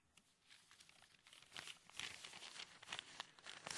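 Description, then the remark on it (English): Paper crinkles and rustles in a steady stream of sharp, crackling bursts that grow louder toward the end, with no talking. “Paper. Terrible.”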